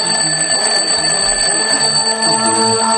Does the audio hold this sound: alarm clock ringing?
yes